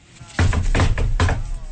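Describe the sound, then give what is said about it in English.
Three loud, heavy knocks on a door, evenly spaced, each a deep booming thud with a short ring after it. “He is just about to take his first bite when suddenly, there's a large knock at the door.”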